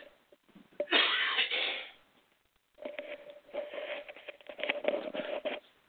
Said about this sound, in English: Now I get the nerves to cough when I start broadcasting. Y'all bear with me here.